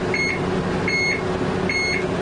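A train's 'attention' warning signal, given by the driver, sounds three times: short, evenly spaced, high-pitched tones, each about a quarter second long, over a steady low rumble of the engine. No one speaks.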